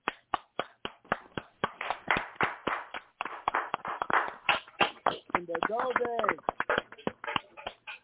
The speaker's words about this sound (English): And it wouldn't be the … Radio Talk Show without you. And all that agree, please clap your hands.